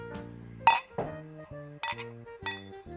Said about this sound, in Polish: Tak kołuję tą butelką, kołuję. Wytworzyło mi się 10 cm piany w środku. No ale jakoś się to postaram przelać tutaj sobie do szklanki.